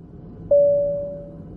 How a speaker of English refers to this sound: The cabin crew put out a desperate call to the passengers. If there's a doctor on the plane, could you please press your call bell? The cabin crew were hoping to hear this.